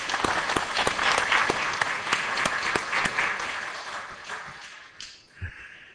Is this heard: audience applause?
yes